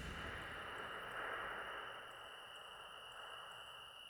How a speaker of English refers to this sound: Listen to the soft symphony of crickets playing just for you.